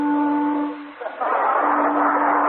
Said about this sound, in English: Wait a minute, what was that? The boat whistle, Mr. Pierce. You told me to get it and use it.